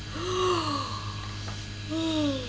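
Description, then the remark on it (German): A voice imitates a monkey yawning: two drawn-out, breathy yawning sounds with a brief pause between them, fairly loud, with no speech. “So macht der. Der gähnt.”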